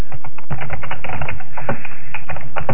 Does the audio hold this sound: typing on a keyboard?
yes